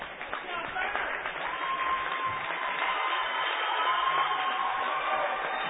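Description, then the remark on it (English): A basketball crowd at a Tigers versus Mustangs game applauds a Mustangs player's effort after a push-off foul, a steady wash of clapping and crowd noise that holds at an even level for several seconds, with murmuring voices blended into it. “Crowd applauding the effort by Bainter there.”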